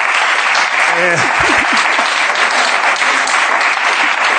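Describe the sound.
Steady, dense audience applause runs through the whole stretch, a thick crackle of many hands clapping, with a brief voice calling out over it early on.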